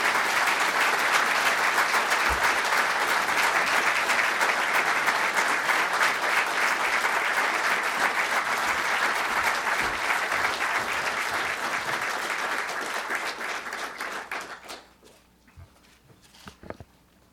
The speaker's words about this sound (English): Would you please welcome him with your applause, Prime Minister Abe.